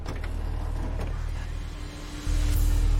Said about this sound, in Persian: همین الان صندوق عقب ماشین تو باز کن.